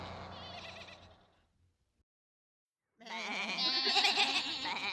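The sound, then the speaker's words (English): Sheep on a road, holding up a bus, bleat loudly, one long wavering call fading out, a second of silence, then another strong quavering bleat that carries to the end. “There are lots of sheep on the road.”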